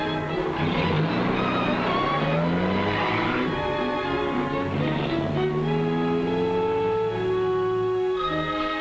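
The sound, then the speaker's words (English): A taxi cab drives off toward the railroad station, its engine humming and rising in pitch as it accelerates through the gears, with a brief tire squeal and steady loud road noise and no voices. “go in the taxi cab that will take them to the railroad station.”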